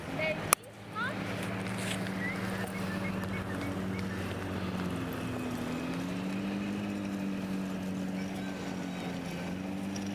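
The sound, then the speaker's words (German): A lawnmower engine drones steadily throughout, its low humming pitch dipping and rising slightly as it works, after a sharp click at the start. “Irgendwie ist hier auch ein Rasenmäher. Ich höre ihn, ich sehe ihn aber nicht.”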